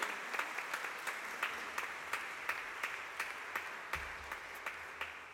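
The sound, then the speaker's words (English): A crowd applauds steadily, many hands clapping in a dense, continuous patter with a few sharper claps standing out, sustained at an even level throughout. “And let's give you a round of applause and enjoy those.”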